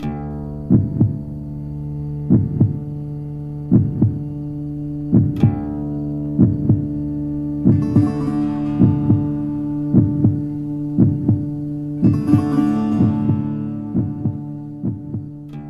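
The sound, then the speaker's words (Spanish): A steady heartbeat thuds in paired lub-dub pulses, roughly one every second and a half, over a sustained low humming drone, with occasional soft hissy swells in between. “Llenan la ausencia de un corazón que dejó de sonar fuerte, pero que en realidad no se ha ido del todo, porque lo escuchamos con la memoria, porque oímos su latir dentro del nuestro.”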